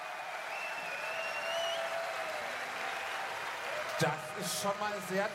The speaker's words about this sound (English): That's quite some applause.